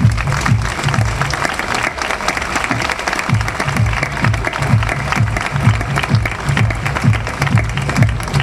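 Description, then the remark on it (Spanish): An audience of neighbours applauds steadily for several seconds, a dense, loud wash of many hands clapping at once, sustained without a break and with no talking over it. “A todos vosotros, gracias por estar ahí, y para todos vosotros, les pido a los vecinos un fuerte aplauso.”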